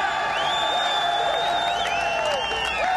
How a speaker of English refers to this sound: A big majority of Americans trusted him as the leader who stood on the rubble of the World Trade Center after the 9/11 attacks, acknowledging the shouts of firefighters.